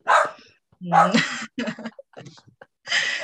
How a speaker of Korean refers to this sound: 네, 지금 죄송합니다. 저희 집 개가 지금 짖고 있는데. 아주 자연스러운 환경이죠?